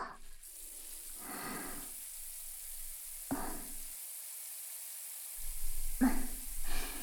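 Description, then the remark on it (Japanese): A shower runs in a steady, even hiss of spraying warm water, broken by several brief louder bursts of splashing and rubbing as it rinses shampoo from hair while the scalp is massaged. No one speaks. “ではでは、シャワーで流していきますので、もう少しそのままでいてください。”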